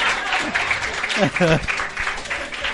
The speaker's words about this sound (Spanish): Cacha la wea buena que dije, que abajo aplaudiera. ¡El aplauso!